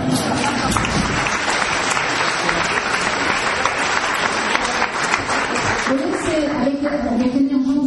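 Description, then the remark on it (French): A crowd claps steadily in a dense, sustained wash of applause for the full eight seconds, and a voice begins speaking over it toward the end. “Merci, c'est bon, on les applaudit.”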